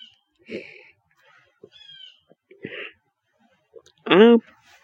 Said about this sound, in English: I don't want to be where I cannot hear that bird. I can't imagine a world without hearing that bird. I don't want to imagine a world without hearing that bird. You can hear them.